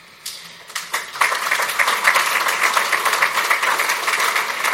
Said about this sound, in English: I knew I'd get some applause over there.